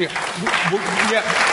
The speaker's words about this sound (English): All of you people applauding that, very sensible point.